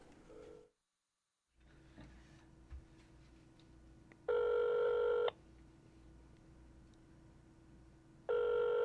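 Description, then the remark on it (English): A telephone line rings back over a steady low hum: two short, clear tone bursts about a second long, spaced roughly four seconds apart, with the second cut off at the end. “it's not a normal ring. It's a little shorter, and it's a different cadence.”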